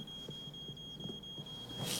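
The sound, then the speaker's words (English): A smoke alarm in a kitchen sounds a steady, piercing high-pitched tone that holds unbroken throughout, over faint low thumps and rumble, with a brief burst of hiss near the end. “It's just a smoke alarm in the kitchen.”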